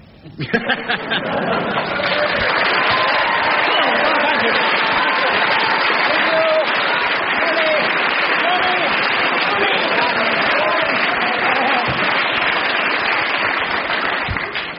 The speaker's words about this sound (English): I'm going to ask the audience to show approval by their applause, and we'll judge on the audience applause before I take the marks off.